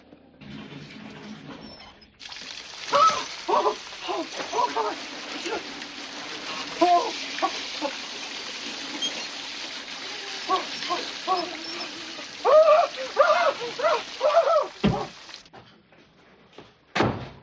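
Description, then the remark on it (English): A shower runs in a steady, hissing rush that starts abruptly, continues for about thirteen seconds, then cuts off, with a muffled voice intermittently audible beneath the spray. “I think I'm going to go back to my room and take a hot shower and maybe read a little Hustler or something.”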